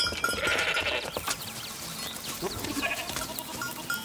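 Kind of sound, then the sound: animal, goats bleating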